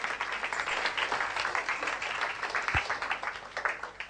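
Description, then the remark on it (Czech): Steady crowd applause welcoming a guest invited up to the front, a dense patter of many hands clapping at an even level throughout, with one brief low thump partway through and no voices. “Pojďme mu zatleskat a já ho zvu sem nahoru.”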